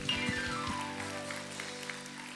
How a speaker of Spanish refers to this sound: Dale un fuerte aplauso a Cristo. A ver cuántos pueden gritar para Jesús una vez más. Amén. Dale un fuerte aplauso a Cristo.